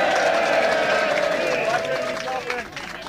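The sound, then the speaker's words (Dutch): An audience applauds steadily for a few seconds to coax a performer with stage fright onto the stage, a dense wash of clapping with voices and cheers mixed in, easing off slightly toward the end. “Misschien als je hem een applaus geeft, dan komt hij misschien wel.”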